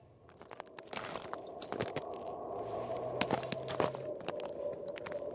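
Footsteps tread gingerly across the frozen ice in the middle of Lake Inari, in the Arctic Circle in the far north of Finland, in an irregular, cautious rhythm, each step a sharp, crackling burst over a steady low rumble, with no voices.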